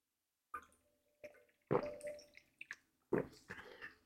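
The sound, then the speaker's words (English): Wet sips and swallows of water come in a handful of short bursts with brief pauses between them, fairly quiet, and no one speaks. “Oh my God, sorry. I needed some water right then, right now.”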